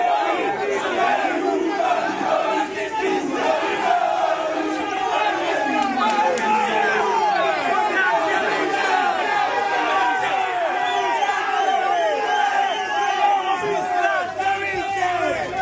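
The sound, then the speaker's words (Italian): A large crowd of about 300-400 AS Roma football fans at Fiumicino airport cheers and chants loudly and continuously as they welcome the club's new coach, many overlapping voices shouting and singing together in a dense, energetic roar that holds steady throughout. “Ok, abbiamo appena sentito l'audio che ci ha fatto capire l'entusiasmo dei 300-400 tifosi presenti ieri sera a Fiumicino, che lo hanno accolto il nuovo CT romanista in modo trionfale e lo hanno accerchiato fino ad impedire di fare domande”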